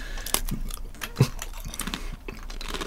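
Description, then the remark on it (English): Crisp crunching as someone bites into a plain salted Pringles crisp, shaped as a hyperbolic paraboloid, and chews, a series of sharp brittle crackles over a few seconds with no talking. “You're going for the munch.”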